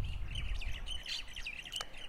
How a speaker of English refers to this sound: Very chatty birds over there. Can you hear?